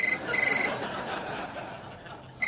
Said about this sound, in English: Oh, that bloody telephone. I'm going to have that taken out, ringing whenever it feels like it. Make the most of it, because this phone's coming out.